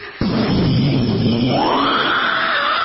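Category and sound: vocal imitation, voice imitating loud thunder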